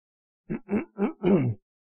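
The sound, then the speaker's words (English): A man clears his throat in four quick, low, voiced grunts, the last one longer and rougher, with no other sound around them. “Excuse me if I keep clearing my throat.”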